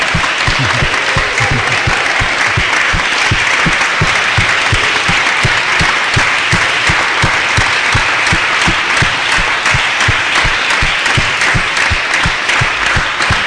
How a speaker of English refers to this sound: give her a big round of applause for all the hard work that she's done.